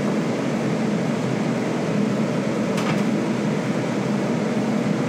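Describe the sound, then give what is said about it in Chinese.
Meat sizzles in a generous amount of hot oil in a pan, half pan-fried to set its shape, a steady, dense hiss with no pauses, blended with the constant whir of a kitchen range hood. No one speaks. “如果就是你不想听的话，我先讲一下，也没什么，我刚才讲完了，就是煎一下这个肉、啊。”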